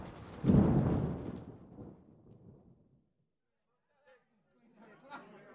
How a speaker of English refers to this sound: Tonight, there is a terrible storm, and it is raining.